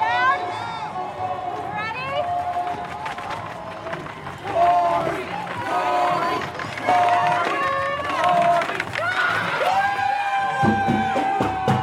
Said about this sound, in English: It is 9:42 a.m. on a Friday morning in Des Moines, Iowa. It's a bit chilly. It's 37. Crisp morning. Got our winter jackets on. Winter jackets, no. And already when we got to the main street, there's this massive crowd of people.